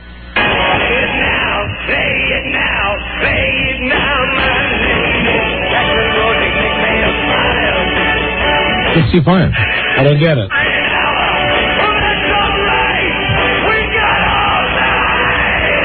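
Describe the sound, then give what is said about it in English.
A man yells loudly in a muffled, phone-quality recording, with the strongest bellowing burst near the middle, while people talk over it throughout. “Are you playing that because … is screaming?”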